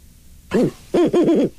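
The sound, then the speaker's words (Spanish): An owl hoots clear and loud: one short hoot, a brief pause, then a quick run of three wavering hoots, with no talking. “Es que así cuando hablas en búho, como que no muy te entiendo.”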